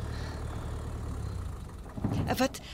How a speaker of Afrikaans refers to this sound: O, daar. Daar stop 'n kar.